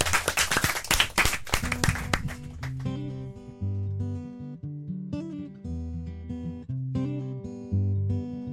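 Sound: studio applause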